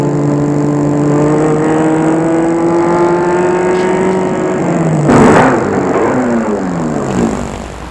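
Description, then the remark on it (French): A car engine hums steadily, then its pitch drops as the car slows and stops in front of a building in Montparnasse, the motor still idling at the end. “Et il fait arrêter la voiture devant l'immeuble.”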